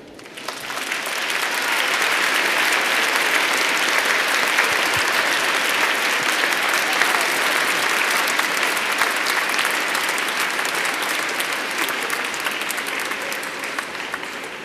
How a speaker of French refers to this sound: Et on peut encore les applaudir.